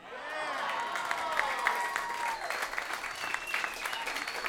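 An audience breaks into sustained applause and cheering, dense clapping with scattered whoops and shouts riding on top, steady and fairly loud throughout.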